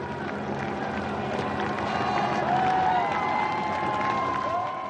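A dense roadside crowd claps and cheers steadily for the full five seconds as a racing cyclist rides up a hill, with scattered shouts and whistles rising out of a constant wash of applause, fairly loud.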